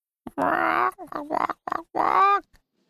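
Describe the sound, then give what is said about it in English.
A man imitates a chicken with his voice, letting out four loud, throaty clucking bursts of varying length, the final one longer and rising in pitch, with no other speech. “Then he clucked like a chicken.”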